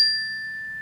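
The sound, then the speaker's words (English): A single meditation chime, used as a reminder to breathe during a guided meditation, rings out clearly, its bright, pure tone sustaining and slowly fading over a faint low hum, with no voices present. “And the reminder will be this beautiful chime.”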